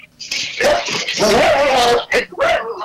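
A dog moans and whimpers in drawn-out, wavering whines, loud, rising and falling for a couple of seconds before a brief pause and a final whine.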